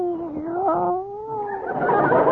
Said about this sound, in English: Meow. What's that? Oh, it's your cat. Hello, Minerva.